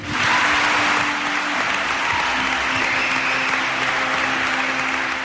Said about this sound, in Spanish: Ese era el aplauso de Castellón, ese 12 de diciembre del 2010, a Pepe Domingo Castaño Solar, que falleció en la pasada madrugada, el pasado sábado.